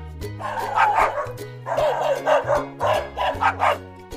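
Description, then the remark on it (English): A dog barks repeatedly, about seven sharp barks in uneven bursts, fairly loud over a steady low droning tone underneath. “He is cute, but a dog that barks too much will disturb our neighbors.”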